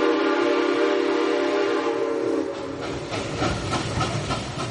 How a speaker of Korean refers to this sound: 네, 들리는 것처럼 이 기차가 개통됐군요. 네, 당시 미국 최대의 철도업자인 밴더빌트라는 사람이 석유 운송 사업을 장악하기 위해서 클리블랜드까지 진출을 한 겁니다.